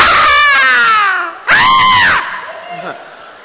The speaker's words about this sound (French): People start screaming. Les gens commencent à hurler.